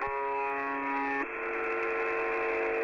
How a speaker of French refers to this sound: Son surnom, c'est The Buzzer. Et en fait, ça fait donc une sorte, vous l'entendez, de bourdonnement. Mmh. Et en plus, c'est à intervalles réguliers. Écoutez.